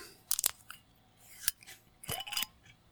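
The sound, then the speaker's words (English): A bottle of Kamikokuro sake being opened: a few sharp clicks and crinkly scrapes in short bursts, like a cap seal breaking and twisting off, with no one speaking. “So I have my bottle of the Kamikokuro, and I'm going to open it up.”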